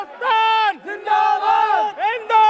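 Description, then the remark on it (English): A few hundred spectators from India and Pakistan, seated in bleachers, yell insults at each other at full volume in three long, sustained bursts, voices straining and overlapping in a loud, jeering chant with brief dips between shouts. “Meanwhile, a few hundred spectators from each country sit in bleachers and, at the top of their lungs, yell insults at each other.”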